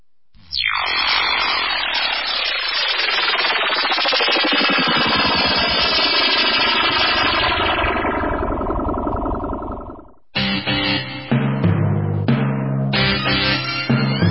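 A loud drone propeller buzz whines steadily for about ten seconds, its pitch sweeping as it moves, then breaks into choppier, stuttering bursts of whirring.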